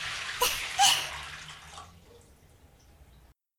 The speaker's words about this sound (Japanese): 最後にあなたのお体に残ってね、泡を洗い流します。